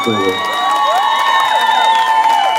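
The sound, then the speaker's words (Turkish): A crowd cheers and shouts steadily for a few seconds, with sustained tonal whoops and voices layered over a continuous wash of audience noise. “Bir alkış alabilir miyiz Kurtuluş'a?”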